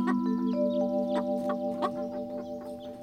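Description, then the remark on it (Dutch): A mother hen behind a closed farm gate clucks agitatedly in a rapid series of sharp, repeated squawks, fairly loud over a steady background hum, with no one speaking. “Ineens hoort Pluto een boos getok.”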